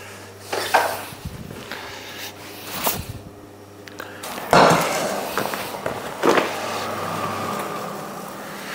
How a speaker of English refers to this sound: Looks pretty good there now. You can hear the crackling of the paper. That's it there now. It's a rye sourdough bread.